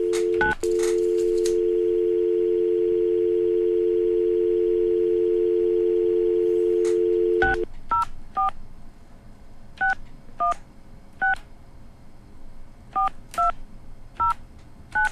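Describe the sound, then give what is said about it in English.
A steady telephone dial tone hums for several seconds, then a quick series of beeping touch-tone keypresses dials a number in short, irregular bursts to place a wake-up call. No voices are heard. “Okay, I hope none of you picked up that phone number there.”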